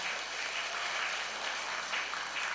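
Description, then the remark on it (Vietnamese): A large audience claps steadily, producing a dense, continuous wash of applause that holds at an even level for a few seconds with no voices standing out. The applause is for children who have come to Giác Ngộ Pagoda for the third, fourth or fifth time. “Cũng khá khá, các cháu này xứng đáng hơn, cho một tràng vỗ tay thật lớn nào.”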